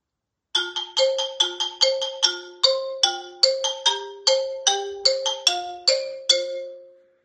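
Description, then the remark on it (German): A xylophone plays a quick, bright melody of about twenty struck notes, each ringing briefly before the next, clear with no voices. “Als Schlagzeug im Musikverein spielt man nicht nur das Schlagzeug, sondern auch zum Beispiel das Xylophon.”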